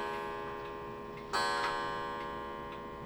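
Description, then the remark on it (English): A clock ticks steadily, with one louder, ringing tick about halfway through and a faint sustained tone lingering underneath. No one speaks. “Damn clock.”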